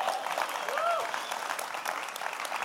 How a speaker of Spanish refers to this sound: Por favor, demos un fuerte aplauso a ellos.